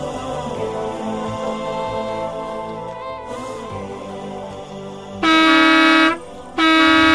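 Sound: bus horn honking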